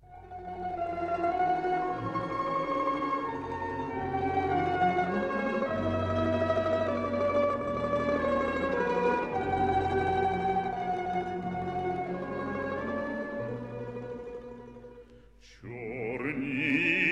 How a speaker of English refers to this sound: we are going to hear the Ukrainian folk song Black Eyebrows, Black Eyes with the Ukrainian Folk Orchestra